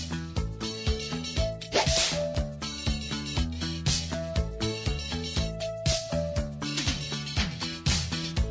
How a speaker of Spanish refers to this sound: Ahí está. Mira, ¡wow! Mira qué tema. ¿Y qué letra? Es bueno. A los latigazos, mira.